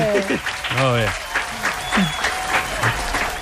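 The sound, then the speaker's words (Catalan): A steady burst of clapping for the first video of a new YouTube channel fills the whole moment, dense and fairly loud, with a few voices whooping and calling out over it. “Bravo, un aplaudiment.”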